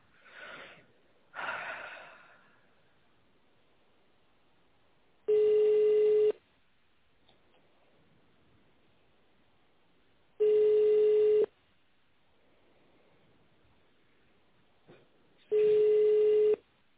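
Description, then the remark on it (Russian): A telephone ringback tone on a call to the United Wagon Repair Company, waiting for the secretary to answer: three steady, mid-pitched buzzing beeps about a second long, spaced roughly five seconds apart, with a couple of short breathy snorts near the start and otherwise quiet line. “Вы позвонили в объединенную вагоноремонтную компанию.”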